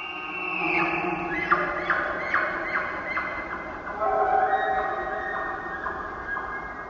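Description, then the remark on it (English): A bull elk bugles its rutting call in the Queets Valley on the Olympic Peninsula, among Sitka spruce: a strained, reedy call that climbs into a high, shrill whistle, broken by a run of quick, throaty pulses, with no talking over it. “This distinct rutting call gets higher and ends with a series of grunts.”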